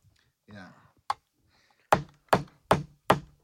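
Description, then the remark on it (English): A hammer cracks a lobster shell with four sharp, loud blows in a steady rhythm, each with a short crunchy decay, after a brief murmured voice and a single light tap. “Oh, you're using a hammer?”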